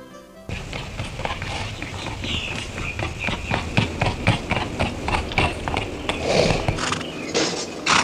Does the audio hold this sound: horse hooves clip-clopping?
yes